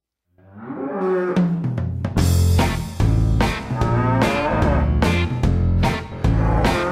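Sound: cows mooing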